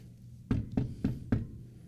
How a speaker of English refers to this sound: So here, Jesus is knocking at the door. He's reaching out to us, and do we hear him? Some of the commentary I read described this as a gentle and persistent knocking. So do we hear Jesus knocking?